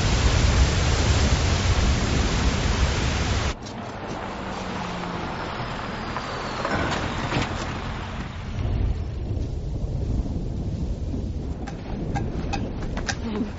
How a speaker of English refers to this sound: And, there's a thunderstorm coming.